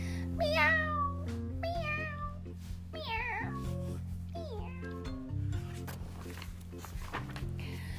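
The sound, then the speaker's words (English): Several high, wavering kitten meows cry out one after another, fairly loud, over a steady backing of soft sustained music. “See how they're crying? Meow! Meow! Meow! Meow! They're crying over here too.”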